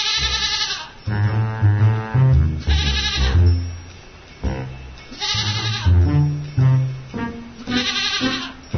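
Several loud fainting goats, a breed from Tennessee, bleat one after another in a steady rhythm, each a wavering, nasal cry with brief pauses between them, and no one speaks.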